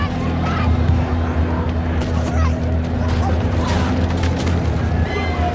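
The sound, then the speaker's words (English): Loud, chaotic scene of deep booming explosions and heavy rumble, with sharp bursts and a frantic crowd clamoring throughout, dense and unbroken from start to finish; a dramatized depiction of the Tulsa Massacre, with families and kids running for their lives in the street amid fires, explosions and gunshots. “You see the literal chaos, Black people, families, kids running for their lives, being attacked in the street, fires everywhere, explosions, gunshots.”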